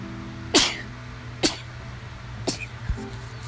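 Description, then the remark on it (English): Three sharp sneezes burst out about a second apart, the first loudest, followed by a softer sniff, all over a steady low background hum. “Fuck, I sneezed.”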